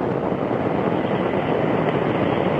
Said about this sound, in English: Liftoff. Liftoff of the Soyuz rocket transporting Mike Fink, Yuri Lonchakov, and Richard Garriott to their home in space.